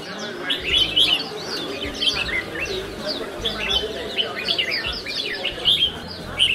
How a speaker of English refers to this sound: It's 9:30 a.m. on a public holiday, and here at Ang Mo Kio Town Garden West, there are already hundreds of bird cages on display. It was started in the 70s when enthusiasts would gather from across the island to let their birds socialize and sing.